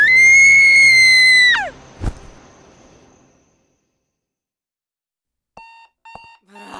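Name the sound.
alarm clock ringing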